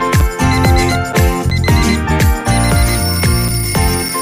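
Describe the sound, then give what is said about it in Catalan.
A loud electronic alarm clock tune plays in the Catalan audio series Museu Particular, a bright repeating melody of chiming tones over deep pulsing bass notes that strike about twice a second, with no voices. “Capítol 1. El despertador.”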